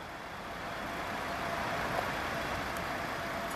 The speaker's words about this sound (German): An der Kreuzung Max-Brauer-Allee Holstenstraße in Hamburg-Altona stauen sich frühmorgens die Autos der Pendler.